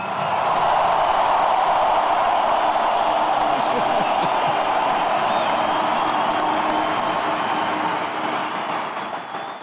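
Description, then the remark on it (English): A large stadium crowd at the Metrodome applauds and cheers for former Minnesota Vikings player Robert Smith in a dense, steady roar of clapping and voices, holding loud for several seconds before easing off slightly at the end. “Can we please have a loud round of applause, ladies and gentlemen, for the great Robert Smith.”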